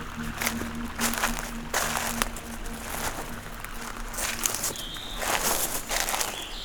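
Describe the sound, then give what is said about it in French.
Slow footsteps crunch and rustle through a carpet of dead leaves in a beech forest in a steady, unhurried rhythm, over a low constant hum, with a brief high bird chirp partway through. “Nous marchons lentement entre la hêtraie des massifs de haut.”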